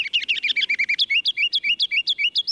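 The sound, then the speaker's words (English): A kinglet, a bird about 4 inches long weighing about 1/4 ounce, sings a rapid, high-pitched run of bright chirping notes, loud, accelerating into a steady rhythmic series of rising whistles with no voices present. “That mile of music comes from a bird 4 inches long and weighing about 1/4 ounce.”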